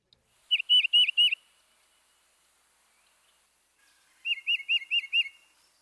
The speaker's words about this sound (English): Next, the tufted titmouse. When comparing the two-noted phrases, listen for the cardinal's purdy, purdy, purdy. And the titmouse's chiva, chiva, chiva.